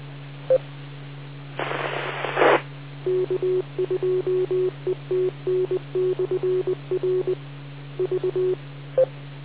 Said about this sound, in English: Okay, was there another station way out there? I got nothing but static.